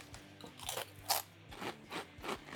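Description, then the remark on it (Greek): Loud crunching of crispy Asian snacks, with about half a dozen sharp crunches in an uneven chewing rhythm and no voices. “Γενικά έχουμε τσακίσει περίπου 20 σακούλες ασιατικά σνακ.”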